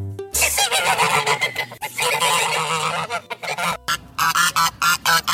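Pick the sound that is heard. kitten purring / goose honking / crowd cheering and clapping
goose honking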